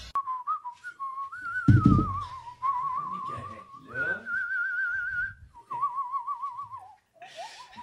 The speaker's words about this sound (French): Moi, mon père, là, il est tout le temps en train de siffler de même. Ah oui. Ah. C'est un déstressant. Mon père, il est constamment en train de siffler de même. On marche dans le magasin. Là, ouais. Puis là, il part. Il siffle.